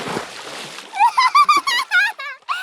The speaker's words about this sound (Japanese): 川に引っ張り込んでやったぞ。これで一緒にずぶ濡れだな。